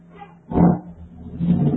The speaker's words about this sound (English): Garbage truck. That was different than before.